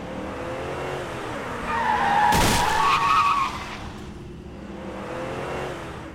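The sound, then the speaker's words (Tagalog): A car engine rumbles as tires suddenly screech into a loud skid, with a sharp, heavy impact as the car strikes a woman pedestrian mid-squeal, before the screech fades back into the idling hum. “Ay, yung babae na bundol ng kotse! Tumawag kayo ng ambulansya! Nabangga yung babae!”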